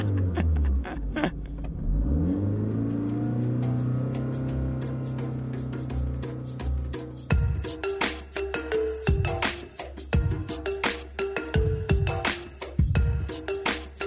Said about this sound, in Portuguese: Ele roubou o carro do pai e foi para a estrada, apesar de não ter carta de condução.